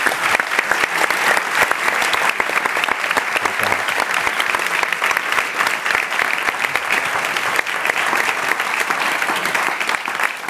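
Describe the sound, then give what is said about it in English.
Sustained audience applause for the panelists at the end of a panel discussion, a dense, steady clatter of many hands clapping at an even loudness for about ten seconds, with no voices standing out. “A round of applause for our panelists today.”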